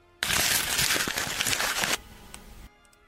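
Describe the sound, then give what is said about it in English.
Paper being crumpled as a sound effect for a rocket launch, a loud, dense crackling burst that runs for under two seconds, then a softer crinkling tail before it stops. No one speaks. “A rocket launch. And the rocket launch is made with crumpling paper, which seems so anticlimactic.”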